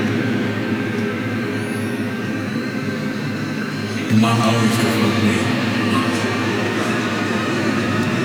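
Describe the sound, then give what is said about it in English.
An old train rumbles steadily along the rails, a continuous low roar with metallic rattling that grows louder and busier partway through, while a voice speaks faintly over the noise. “It's an old train for a moment at the top of the world.”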